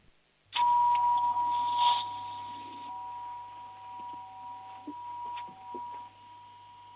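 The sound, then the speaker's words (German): The home doorbell of a 7-year-old boy in Lower Austria rings with a sudden bright chime, holding steady tones that slowly fade, with a couple of softer clicks or strikes later. It sounds moderately loud, with no talking. “Und jetzt hätte ich gerne noch deine Türklingel gehört.”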